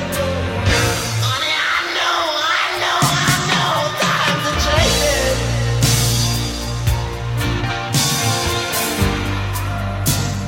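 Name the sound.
screaming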